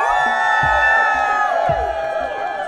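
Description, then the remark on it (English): A crowd cheers loudly and steadily, a dense wash of overlapping shouts, whoops and high-pitched yells sustained for a few seconds without pause, voting by cheer meter on which invasive species has done the most damage to Vermont's ecosystem. “And we tallied final votes using a tried-and-true method of any democratic voting process, the cheer meter.”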